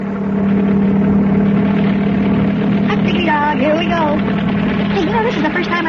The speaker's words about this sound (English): Hey, you know, this is the first time I ever flew in a helicopter. It doesn't seem to be much different than flying in an ordinary airplane. This thing flies a lot faster than I ever thought it would.